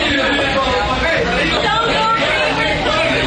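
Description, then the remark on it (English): The audience at the Laugh Factory comedy club yelling and jeering at Michael Richards, many voices overlapping into a loud, continuous wall of shouting with no single speaker standing out. “This is pretty much just everybody in the audience at the Laugh Factory yelling at Michael Richards.”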